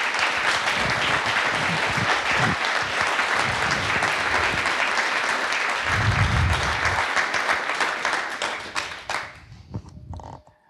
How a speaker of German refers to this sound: Danke nochmal an die Veranstalter hier insgesamt für den Easter Hack. Wir haben uns hier sehr wohl gefühlt, denke ich. Und nochmal großen Applaus, bitte. Danke, danke.